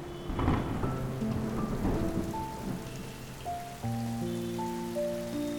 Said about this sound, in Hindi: मुंबई के CST station पर उतर कर जैसे ही मैं स्टेशन से बाहर निकल ही रहा था कि जोरों की हवा चलने लगी और कुछ ही पलों में तेज बारिश शुरू हो गई।